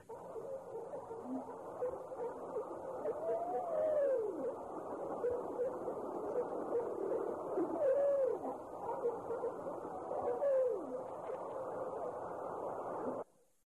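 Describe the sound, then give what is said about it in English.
Underwater fish sounds picked up by sonar hydrophones: a steady bed of crackling, chattering noise with three whiny, rising-and-falling squeals spaced a few seconds apart, and no voices. “But now, thanks to remarkable advances in marine technology, we can use instruments such as our sonar hydrophones to actually hear the fish talk.”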